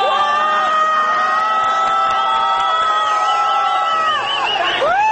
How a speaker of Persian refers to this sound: یک گروه از موتوری‌های ضد شورش از بالا می‌آیند و با سر و صدای زیاد از کنار مردمی که در پیاده رو ایستادند حرکت می‌کنند. جمعیت هو می‌کشد.